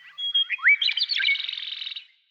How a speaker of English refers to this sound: The key to this extraordinary range of sounds lies in the bird's physical anatomy.